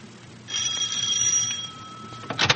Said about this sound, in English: It is the next morning now, and at the Gibbs home, the doorbell rings.